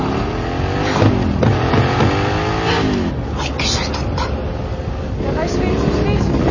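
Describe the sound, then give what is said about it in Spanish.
A motorcycle engine revs hard, its pitch climbing and dropping in repeated surges as it races along and turns through streets while a Mercedes pursues it, with busy street noise underneath. “La moto gira en una calle.”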